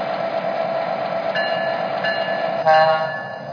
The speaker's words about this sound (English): train number 3, the Lackawanna Limited.